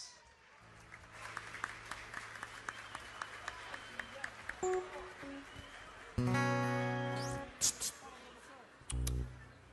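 An audience claps in a dense, steady wave of applause lasting about six seconds as a performer is called onto the stage for a presentation, with scattered sharper claps standing out, before sustained musical tones take over.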